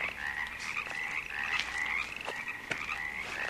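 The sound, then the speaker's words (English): A steady chorus of frogs croaking and crickets chirping fills the night air, a dense, continuous trill with a few sharper clicks poking through, no voices present. “The crickets and frogs, they're listening.”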